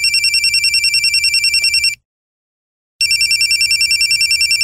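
A telephone rings in two long bursts of rapid, trilling high-pitched tones separated by a second of silence. The ringing is loud and steady, with no voices.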